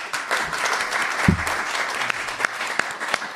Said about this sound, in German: Ein ganz großes Dankeschön an den Fachbereich Elektrotechnik und Informationstechnik und das Team von Highest, die diesen Austausch hier auch möglich machen. Auch einen großen Applaus!